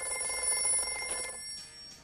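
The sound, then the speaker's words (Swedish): A telephone bell rings steadily with a bright, metallic trill that fades out after about a second and a half, leaving faint room noise. Nobody speaks. “Det ringer!”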